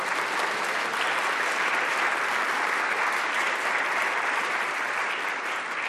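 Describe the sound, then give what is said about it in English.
Steady, sustained applause from an audience for a performer who choreographed her own routine, many hands clapping in a dense, even roar that holds at the same loudness for several seconds with no voices standing out. “she choreographed that all by herself, so give her another round of applause.”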